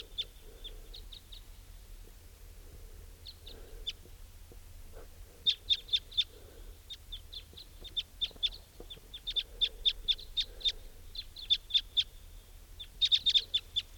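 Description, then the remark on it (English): Wild type 2 crossbills, drawn by decoy birds set near small trees at the edge of a clearing, call repeatedly in short, sharp, high chip notes. The calls come in quick bursts and overlapping flurries over a steady low background hum, with no voices. “Place is crawling with crossbills.”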